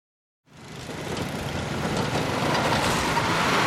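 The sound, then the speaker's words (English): After a brief silence, the loud, steady engine roar of snow plows and snow blowers in New England during a blizzard with wind gusts over 70 miles per hour kicks in abruptly, a broad rumbling drone that swells slightly and holds without pause. “Snow plows and snow blowers, a common sound across New England today as a howling blizzard with wind gusts over 70 miles per hour hits the region.”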